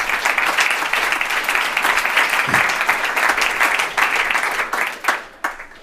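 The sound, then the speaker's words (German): An audience at a candidates' event on the upcoming state election applauds in a dense, steady wash of many hands clapping, holding strong for several seconds before thinning out and fading near the end. “Da habt ihr dann später bestimmt noch genug Zeit zum Klatschen.”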